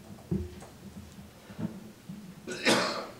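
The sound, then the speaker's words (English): A single sharp sneeze bursts out near the end, loud and breathy against a quiet background with faint low thumps and murmur beforehand. “Bless you.”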